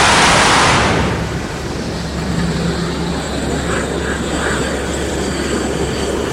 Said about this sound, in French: Et c'est là où il va sortir son train, sa crosse. Il va se mettre en position d'appontage. Et après, il va faire un couple derrière pour se poser et prendre un des 3 bras.